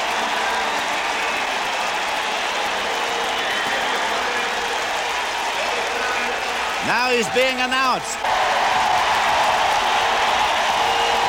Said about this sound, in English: Willie Mack getting a standing ovation here. He's out there on deck, and now starts the trek up to the plate. Listen to the roar for Willie McCovey.